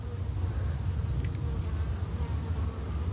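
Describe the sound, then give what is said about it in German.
A dense, steady drone of many honeybees buzzing close by at a beehive, a continuous low hum with no pauses and nobody speaking. “Es war meine Idee, dass wir möglichst dicht an den Bienenstock rangehen.”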